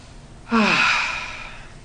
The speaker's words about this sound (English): The boredom of breathing. Inhale, then exhale, then inhale, then exhale.